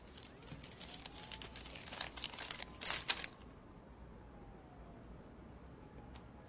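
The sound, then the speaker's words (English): A paper bag and a note crinkle and rustle in a run of crisp bursts over the first three seconds, building to a few sharper crackles before fading into quiet room hiss. “Turned into lost and found in a paper bag. Along with this note.”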